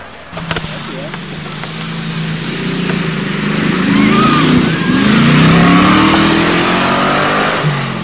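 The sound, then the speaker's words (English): A Mustang car's engine revs up, its throaty rumble climbing in pitch and growing louder over several seconds before holding steady at a strong roar. “Mustang.”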